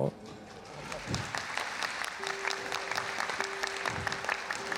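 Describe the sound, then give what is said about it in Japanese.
A crowd applauds steadily, a dense wash of clapping from many hands that holds at a constant level throughout, with a faint sustained tone running beneath it in the second half. “いやそれね、皆さんからさって拍手していただけるのありがたいんだけれど、僕の身にもなってほしいんですよそれで。”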